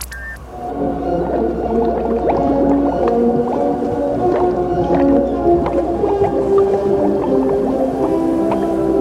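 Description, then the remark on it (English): A drowning orchestra sound effect created by a programmed resonator: warbling, bubbling instrument tones that wobble and gurgle as if played underwater. It is loud and continuous for several seconds, with no voices. “A drowning orchestra?”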